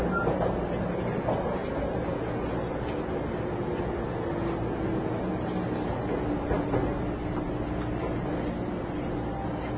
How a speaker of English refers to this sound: And that's what we're going to be doing. And this time we're going to stay on the train all the way to Shinjuku.